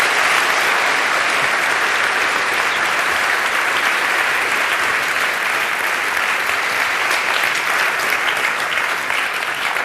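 Sustained audience applause, a dense steady wash of many hands clapping at an even, fairly loud level for about ten seconds, with no voices rising above it.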